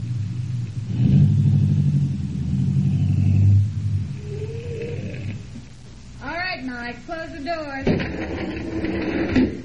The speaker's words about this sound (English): Then, a few miles south of Detroit, Greco directed me to turn into a small and decrepit wayside garage called Mike's Place. We'll drive right inside.